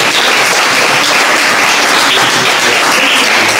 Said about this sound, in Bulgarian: Виж как им хареса тук, вече получи аплодисментите. Пляскайте.